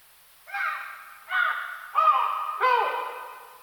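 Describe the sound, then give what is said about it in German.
Four separate recorded monkey calls from female and male animals of different ages (half-year-olds, juveniles and adults) follow one another, each a short, harmonic, somewhat nasal cry lasting about half a second. The later calls sound slightly lower and fuller. “das sind von weiblichen Tieren und von männlichen Tieren Rufe und hier unten sind verschiedene Altersklassen, also einmal so Halbjährige etwa, dann Juvenile, das sind so Halbwüchsige und dann die Erwachsenen.”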